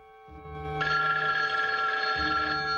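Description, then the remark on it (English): A telephone bell rings loud in a hotel room, a shrill, continuous metallic jangle that swells in after a quieter start and keeps going, with a faint low rumble underneath. “He walks over to the phone and hesitates before lifting the receiver.”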